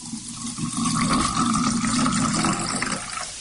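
Cold water pours steadily into a cup for about three seconds, a continuous splashing gurgle that holds an even level before tapering off near the end.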